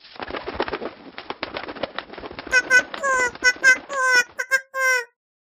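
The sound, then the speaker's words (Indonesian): A person talks briefly, then a bird coos, a run of about six soft, tonal calls in quick succession, some rising and falling, ending abruptly. “Gimon menjelma jadi seekor burung. Gimon, benarkah itu suaramu?”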